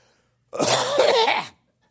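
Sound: coughing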